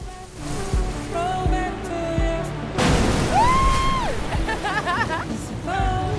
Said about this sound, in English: A whale breaches, twists, and flops back into the sea. Breach! It's right in front of us. It breaches again.